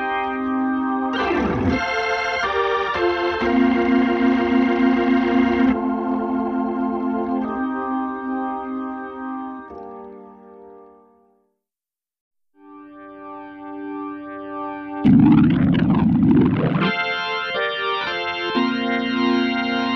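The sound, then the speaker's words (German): Overdriven organ chords swirling through a rotating Leslie speaker with gritty tube distortion, played loud in two sustained passages separated by a brief silence, with no talking. “Beim Leslie-Kabinett ist auch der Röhrenverstärker unverzichtbar für den richtigen Sound.”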